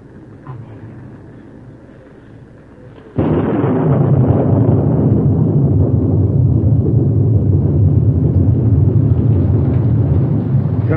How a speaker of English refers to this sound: It's raining. Rain? Miss Carol, it's raining. Rain. It's coming up faster. Faster. Rain. It's rain from heaven. Turn to be a cloudburst.